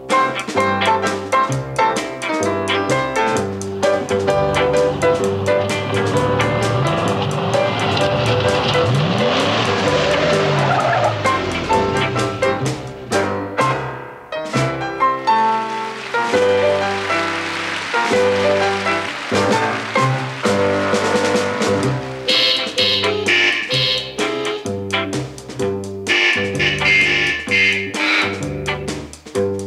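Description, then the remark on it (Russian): A musical piece played on car horns, with loud, sustained honking tones layered into shifting chords that continue almost without pause. A brief dip comes about halfway through. “Вот, к примеру, произведение, написанное специально для автомобильных клаксонов.”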